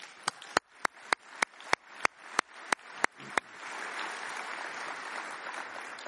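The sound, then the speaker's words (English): At ICANN's 39th public meeting in Colombia, audience applause for a dance troupe begins as a steady run of sharp, evenly spaced claps, then swells into a dense, continuous wash of many hands clapping at once, holding fairly loud until the end. “And let's have another round of applause for that fantastic dance troupe.”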